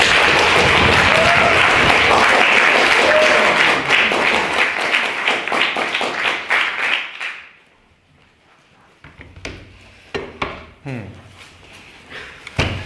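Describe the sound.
An audience bursts into loud, dense applause welcoming the evening's stand-in secretary, who is there to take the minutes from last week's debate. The applause tapers off after about seven seconds. A brief hush follows, then a voice starts talking.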